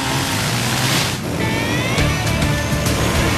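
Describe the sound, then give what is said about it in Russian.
A steady, loud roar of a stormy sea and churning water fills the scene as darkness falls, with a faint high whistling tone rising over it partway through. No one speaks. “Темнеет, а шторм все не унимается.”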